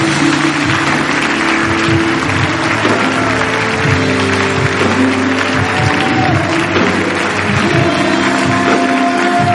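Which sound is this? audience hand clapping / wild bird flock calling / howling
audience hand clapping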